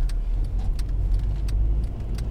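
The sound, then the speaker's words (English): A car drives along steadily, its low engine and road rumble filling the cabin, with a few faint clicks and rattles scattered over the continuous drone and no one talking. “Now, I've heard you drive this car.”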